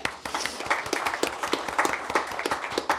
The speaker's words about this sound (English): So thank you. Another clap.